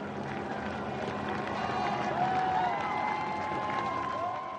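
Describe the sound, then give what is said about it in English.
A dense crowd of spectators at a cycling race up a hill claps and cheers steadily and loudly for the lead rider, with whistles and shouts rising out of the roar, while a helicopter's engine drone shifts in pitch overhead as it draws nearer. “The helicopter draws nearer. Volleys of applause rifle below and spiral upwards with the rider.”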